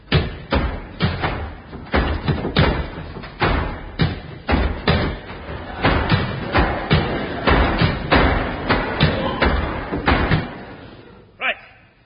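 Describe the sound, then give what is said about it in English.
A rapid series of loud, heavy door slams and thuds, one after another for about eleven seconds, with voices murmuring underneath, ending in a brief higher-pitched creak. “Could we close the doors, please?”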